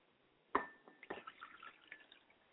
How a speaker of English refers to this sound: Then we feed the head faithfully. We pour the water to feed the head. I pour libation, feed the head of my father spirit, Ashe.